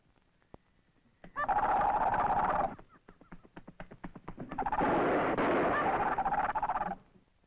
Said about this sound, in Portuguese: Devo estar sugestionado. Era apenas uma coruja. Quando ouvires o canto de morte da coruja, eu prenúncio do fim.